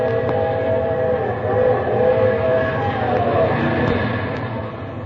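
The whistle of the 3 a.m. train blows in a long, sustained, wavering tone over the steady rumble of the passing train, filling the whole stretch without any voices.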